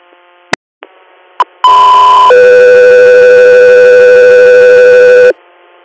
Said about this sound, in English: Echo 3 Air, stand by for tone.